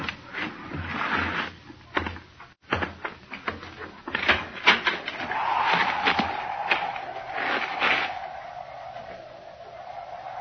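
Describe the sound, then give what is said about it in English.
A door is opened, with a series of clunks and rattling clicks followed by a long, drawn-out creak that fades slowly. No voices are heard. “But will you come to the door with me and look for it now?”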